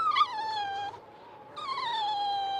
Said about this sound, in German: Plötzlich hört sie ein Geräusch. Etwas bewegt sich unter dem Schneehaufen. Es klingt wie ein Winseln und Jaulen.